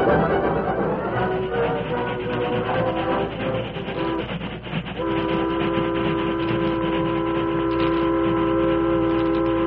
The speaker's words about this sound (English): That was a supply train.